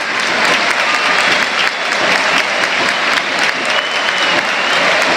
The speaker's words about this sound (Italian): Esce, vediamo, dalla parte opposta del campo, andando a prendere anche l'applauso della curva nord.